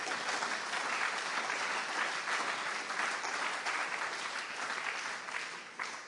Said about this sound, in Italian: Facciamo un applauso al Signore.